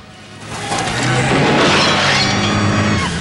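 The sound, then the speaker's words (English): A Lincoln car's engine roars as it speeds backwards and bursts through a garage door, a loud crashing smash with splintering debris that swells after a second and lingers with the engine drone. “Rick speeds backwards in the Lincoln, smashing through the garage door.”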